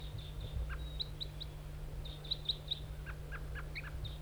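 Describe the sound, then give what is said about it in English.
Short, high bird calls repeat in quick bursts: a series of sharp toops from one decoy bird alongside brief flight calls from another, responding to a lone all-red wild male bird, over a steady low hum of background noise. “4-3 toops and 5-7 flight calls.”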